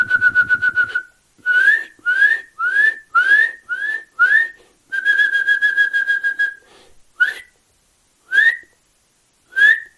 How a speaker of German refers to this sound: Sein Gesang besteht nämlich auch aus seinen Rufen. Ihr müsst genau hinhören, wie ist die Art und Weise, wie er seine Rufe aneinanderreiht und wie er sie vorträgt. Und wenn ihr da euer Ohr schult, Kleiber in eurer Nähe hat, diese üb, üb, üb, üb.